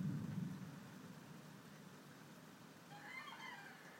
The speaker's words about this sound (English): I was just drifting off to sleep last night, and I could hear this rumbling, and I thought, is that thunder or is that wind? Now I know it was thunder. Absolutely dipping down with rain. But you can't hear it hitting the window.